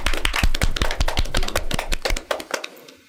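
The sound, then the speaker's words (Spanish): A small group claps together for a birthday greeting, producing a dense, uneven patter of sharp hand claps that keeps a steady intensity for a couple of seconds before tapering off into a few final claps. “Aplausos, gente.”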